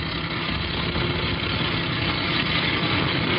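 A heavy truck engine idles steadily, a continuous low rumble with a faint vibrating hum and no change in pitch or loudness throughout.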